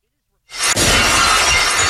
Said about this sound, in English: We'll break glass here.